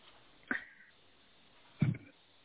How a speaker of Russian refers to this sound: Собаки.